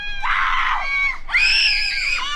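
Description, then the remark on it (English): A woman, the camp director of a zombie camp in a wooded park in Aurora, Colorado, lets out two loud, high-pitched screams in quick succession, the second one longer and shriller, with no other voices. “That scream belongs to camp director ….”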